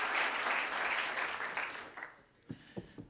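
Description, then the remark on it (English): A crowd claps steadily and densely for about two seconds, then the applause thins out into a few scattered, fading claps. “Applaud if you would have done the same thing under those circumstances.”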